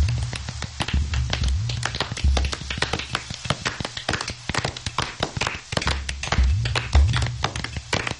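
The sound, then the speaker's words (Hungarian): A steady round of applause: many hands clapping in a dense, crackling patter that holds at an even level for about eight seconds, with a low hum running underneath. “Tapsoljuk meg róka kumát.”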